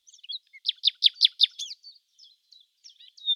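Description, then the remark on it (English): A small grey nightingale perched on a bough sings a quick series of five bright, down-slurred whistled notes, followed by softer scattered chirps and twitters, clear with no other sounds. “she added, pointing to a little grey bird who was perched on a bough.”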